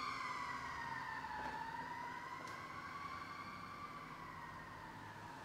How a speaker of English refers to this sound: There, for those who may not be able to hear, there's some sirens, fire trucks, and rescue first responders are heading out.